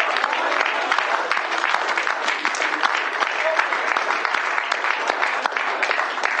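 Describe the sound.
An audience clapping their hands in a dense, steady burst of applause that holds loud and unbroken from start to finish, with faint voices mixed into the noise.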